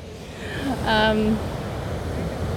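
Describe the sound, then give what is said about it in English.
Steady, rushing surf and wind noise on a beach fills the scene without a break, with a brief tonal, voice-like sound rising over it near the middle. “Am I actually going onto the water? No, beach.”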